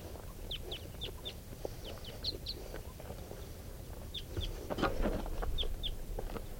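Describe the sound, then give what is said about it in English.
Wild birds fly overhead, coming back from a tree grove, and call in two loose bursts of short, high chirps over a steady low rumble, with a louder rustling burst near the end and no talking. “But the same wild birds are coming back, just flew over.”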